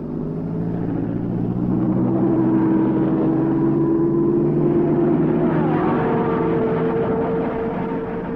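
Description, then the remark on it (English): An Indianapolis championship race car engine roars loudly and steadily during preparation for time trials for the Memorial Day 500-mile race, a dense rumbling drone with tonal whine that shifts upward in pitch near the end as it passes, with no voices. “But now there are 91 cars and 61 drivers preparing for time trials.”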